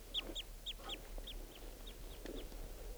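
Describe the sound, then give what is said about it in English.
A bird gives flight song and flight calls as it approaches the net area: a quick series of high, hooked chirps, about ten short calls in a steady rhythm, over a faint low rumble with no one speaking. “Flight song and flight calls, and he's approaching the net area.”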